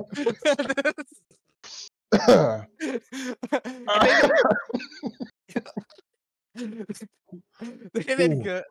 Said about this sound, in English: Everybody's fucking coughing lately, dude. Everybody's getting sick. It's that time of year. That was self-induced. You can't even like blame that on the cold. That was self-induced.